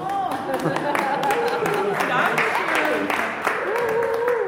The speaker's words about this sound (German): Im Ziel im Heimatmuseum Gransee werden die Finisher mit Applaus begrüßt und einer Urkunde. Alle sind stolz, die 43 Kilometer geschafft zu haben.